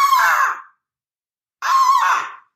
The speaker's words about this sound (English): This that sounds like a raven.